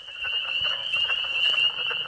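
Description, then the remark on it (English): A dense chorus of high-pitched chorus frog chirps fills the air nonstop. Softer, lower clucking calls from a newly described, as yet unnamed leopard frog species pop up irregularly underneath. There are no voices, just an outdoor wetland frog chorus. “The high-pitched chirps are chorus frogs, but the new guy emits that low clucking sound.”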